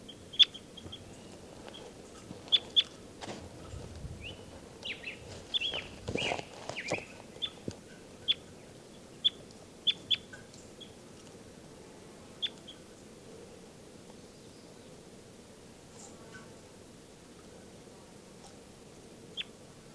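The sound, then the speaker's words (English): A bird, numbered 394, being handled gives short, sharp, high-pitched chirps at irregular intervals, mixed with rustling and bumping handling noise early on, then sparser calls over a steady low background hum. “Star coding, this is bird 394 being handled.”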